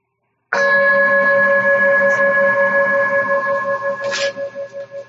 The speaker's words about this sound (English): All right, so let's try that. I'll ring the bell to get us started.